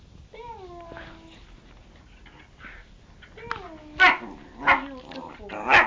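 A dog whines with drawn-out, falling tones, then lets out three loud, sharp barks spaced about a second apart.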